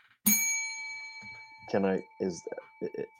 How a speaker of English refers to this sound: Boom! Where's the bell?